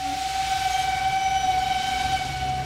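A steam train's whistle holds one long, steady, piercing note over a constant rumbling, hissing roar of the moving train, loud throughout; the train carrying the Lincoln family from Springfield toward Washington in February 1861.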